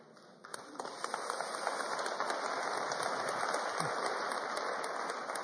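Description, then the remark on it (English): Steady rain hisses throughout on a cold Sunday, building in the first second and then holding even, with scattered sharp drops tapping against a dense, fairly loud wash of falling water. “We need it on this cold and rainy Sunday.”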